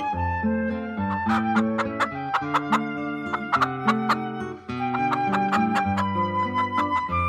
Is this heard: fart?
no